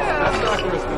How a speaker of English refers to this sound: The crowd scatters.